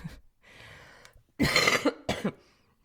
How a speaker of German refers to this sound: Ab und zu muss ich auch mal husten.